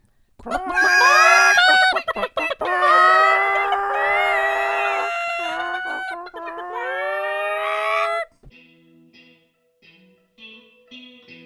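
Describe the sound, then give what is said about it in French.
Several voices imitate chickens together, a loud overlapping chorus of squawks and clucks lasting about eight seconds, then fading into quiet background sounds. “Est-ce qu'on dit bye avec nos plus beaux bruits de poule possible?”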